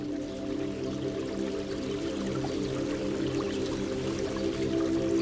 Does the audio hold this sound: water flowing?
yes